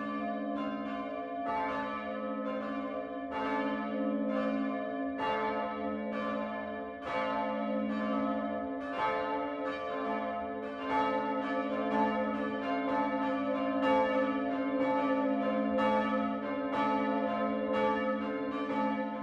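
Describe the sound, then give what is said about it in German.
Church bells of the Protestant Lutheran parish church St. Michael in Hofstetten, Lower Franconia, a part of Kleinwallstadt in Miltenberg district, Bavaria, ring the 12 o'clock midday peal, several bells overlapping in a continuous, rich sustained toll with repeated strikes, moderately loud and unbroken throughout, with no voices. “Das Mittagsläuten kommt heute von der evangelisch-lutherischen Pfarrkirche St. Michael im unterfränkischen Hofstetten.”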